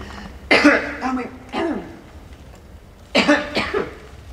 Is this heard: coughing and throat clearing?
yes